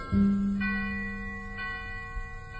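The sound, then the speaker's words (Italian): A single church bell strikes loudly and rings out with a long, shimmering decay, followed by a fainter second toll as the resonance lingers. No voices are present. “Un campanile rintocca soltanto per me.”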